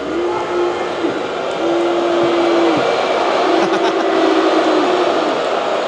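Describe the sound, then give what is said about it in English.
A large crowd at the 2026 NHL Draft roars steadily for several seconds as commissioner Gary Bettman eggs it on before the first overall pick, with long, low, drawn-out vocal tones swelling and dropping off in repeated waves. There is no clear speech, only dense, loud crowd noise. “Gary Bettman egging on the crowd here.”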